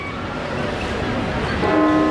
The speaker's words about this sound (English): Which ones were close? Nottingham was the closest. We came very close to using the sound of Nottingham's bells.